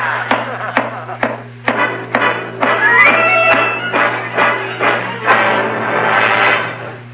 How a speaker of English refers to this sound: That's an idea. I'll go up to the attic and pound on the ceiling of his room all night with a broom handle.